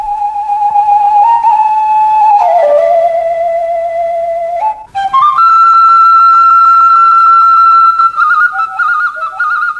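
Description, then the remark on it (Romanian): A shepherd's fluier plays a tender village folk melody alone beneath the walls of a prison, sustained breathy notes sliding between pitches, with a brief pause midway before a higher, steady phrase continues, fairly loud. “Și neobținând permis de vizită, s-a plimbat ziua întreagă sub zidurile temniței, cântând din fluier duioase melodii de la sat.”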